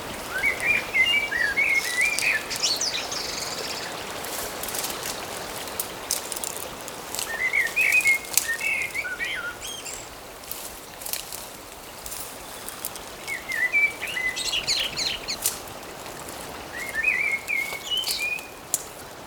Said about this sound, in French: Des vagues, le chant des oiseaux, laissez-vous emporter par le paysage.